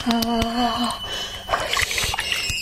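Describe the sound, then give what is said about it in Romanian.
Cold water trickles and splatters in short dribbles onto the forehead of a person who has fainted, following a brief voiced sound at the start; the splashes are irregular and fairly loud. “Apă rece. Apă pe frunte.”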